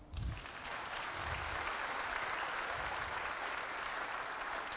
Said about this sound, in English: I think we need to applaud that one.